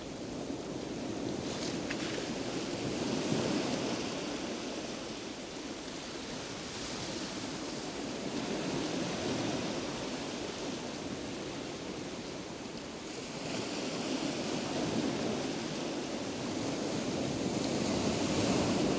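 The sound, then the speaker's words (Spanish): Steady ocean surf washing in, a dense hiss that swells and eases slowly over several long waves, with no voices, just the continuous rush of water breaking on a shore. “Hueles la brisa que te rodea y hueles a mar.”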